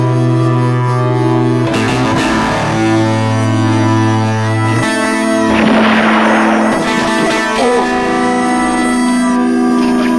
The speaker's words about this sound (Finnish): Lisätään hiukan pauketta. Lännessä paukkuvat aseet.